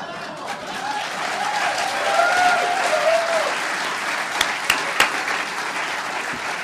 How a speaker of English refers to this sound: Everybody applause.